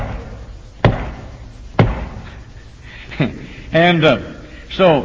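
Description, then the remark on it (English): Slow knocking on a house door by a man visiting in North Carolina: two loud, heavy knocks about a second apart, then a softer third, followed by brief voiced sounds. “When he knocked on the door, here's the way he knocked on the door.”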